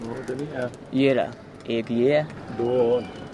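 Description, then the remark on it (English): Pigeons from rooftop lofts, where many thousands live within a few blocks, coo in a series of low, warbling calls that rise and fall, repeating every second or so, mixed with a voice talking over them. “many thousands of pigeons live in rooftop lofts like this.”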